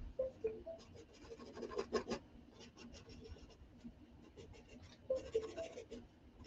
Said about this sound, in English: I'm going to actually shave some of the top off because I can feel there's like a hard spot in this pencil.